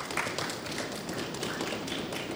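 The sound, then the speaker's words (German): A live audience stamps its feet in classic trampling to show how many of them there are, a dense, continuous rumble of many overlapping thuds and taps, steady and fairly loud throughout with no voices standing out. “würde ich unser Publikum mal kurz bitten, wirklich durch so ein ganz klassisches Trampeln vielleicht mal zu zeigen, dass ihr wirklich viel zu viele seid, als dass wir im Archiv heute sitzen könnten.”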